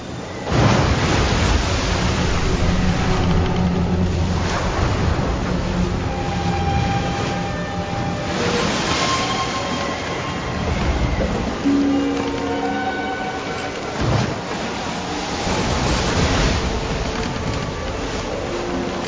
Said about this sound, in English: By then a strong wind was blowing and stirring up the water.